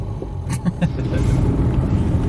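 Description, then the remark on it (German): A steady low engine rumble from inside a car moving slowly at walking pace with two people aboard, with a few soft clicks and knocks near the start and a constant muffled cabin hum throughout. “Immerhin fahren wir in doppelter Besetzung zum normalen Standard des Autofahrens”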